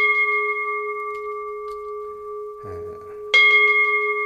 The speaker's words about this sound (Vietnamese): Chúng ta nhớ thỉnh chuông khi mà chúng ta lên, chúng ta đánh giải ra, đánh giải ra như thế này.